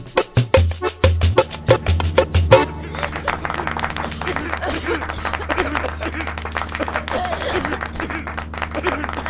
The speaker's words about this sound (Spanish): Algunos enfermos aplauden en medio del ataque de tos.